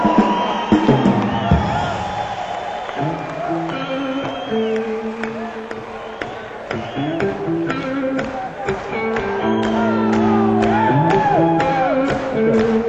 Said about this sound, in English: Before we start, let's have a great thunderous round of applause for Dan Hicks, please.